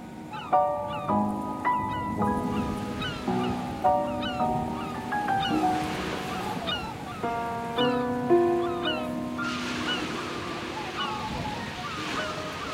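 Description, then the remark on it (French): Steady surf rolls and hisses along the beach at Cabourg, France, under gusting wind, swelling louder near the end, while a melodic tune plays over the top. “Tous deux se promènent sur la plage de Cabourg.”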